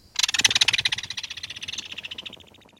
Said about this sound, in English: But that discovery would likely come with an earful of a kingfisher's rattling alarm.